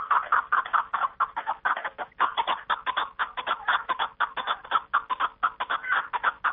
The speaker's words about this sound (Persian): از این رو آنها می گویند زیب کوهساران کپک است و خوانش آن که دره و بیش از آران را ساده و تاز است و خوانش خرامش زیب و جلوه می دهد بیننده را یک کیفیت خاصه گوارای می بخشیده است.